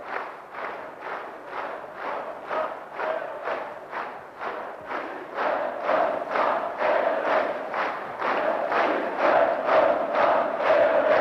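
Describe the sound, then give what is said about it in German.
A large crowd standing on their chairs chants 'Wir grüßen unseren Erich' (We greet our Erich) over and over in a steady, rhythmic cadence, roughly two syllable bursts per second, growing slightly louder toward the end, at a gathering attended by East German officials including Walter Ulbricht and President Wilhelm Pieck. “Wir grüßen unseren Erich, das ist der Ruf.”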